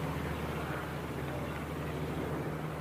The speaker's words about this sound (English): Right, an airplane. And we're currently flying high in the air.